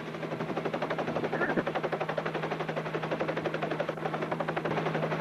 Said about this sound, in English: I think I can hear the helicopter.